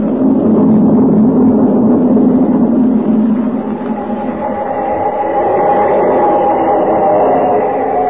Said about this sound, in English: There's the train. Just pulling into a station. Thank heavens.